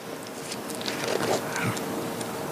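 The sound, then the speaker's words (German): Soft, papery rustles of book pages being turned: a few brief swishes and crinkles clustered in the middle, over a steady low hiss, with no one speaking. “Muss ich gerade blättern.”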